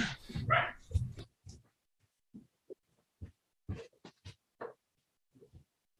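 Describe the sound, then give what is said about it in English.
A female dog barks in a quick loud burst, then keeps letting out short scattered barks and yips with brief pauses between them. “Yeah, I mean, I think she's actually barking at the neighbor, so I can see if I can bring her inside.”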